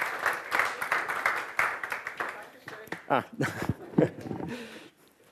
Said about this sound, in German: Dann kurzen Applaus für Edith.